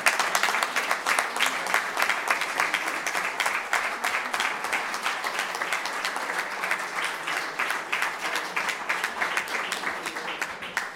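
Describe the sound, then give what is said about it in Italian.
Sustained audience applause welcoming a young blues composer and songwriter. Many hands clap in a dense, steady patter at an even loudness for the full eleven seconds, with no voices rising above it. “eccola qua, la accoglierei con un applauso.”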